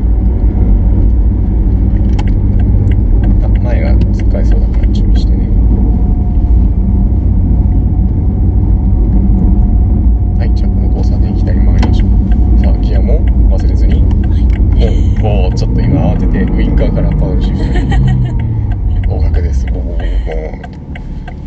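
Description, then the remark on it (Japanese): A car engine and exhaust rumble steadily and loudly from inside a moving car turning left, a deep continuous drone with voices talking over it, easing off slightly at the very end. The exhaust sound comes from a muffler sound feature that can be switched off with a button. “鳴らしたくないときはこの、マフラーサンドのボタンをオフにすればいいんです か。”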